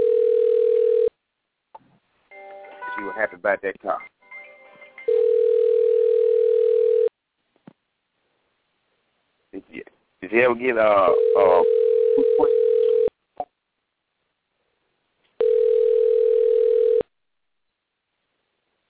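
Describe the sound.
A phone line rings repeatedly with no answer: four steady, mid-pitched ringback tones about two seconds each, separated by pauses, with people talking in the gaps between rings.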